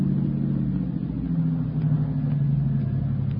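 car approaching

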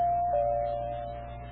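doorbell ringing

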